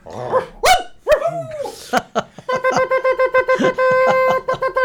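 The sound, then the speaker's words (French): A pack of several dogs on a trail barks in quick, overlapping bursts, followed by a steady, rhythmic run of tonal yelps or music-like notes. “La ribambelle de chien est toujours sur la piste du pout-pout.”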